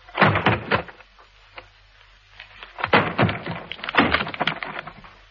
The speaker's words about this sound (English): Look out, I'm going to break the door down.